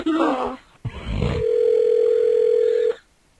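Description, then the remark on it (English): A single steady ringback tone from an outgoing phone call sounds for nearly two seconds, clear and fairly loud, after a short burst of brief tones and a thump. “I hope she picks up.”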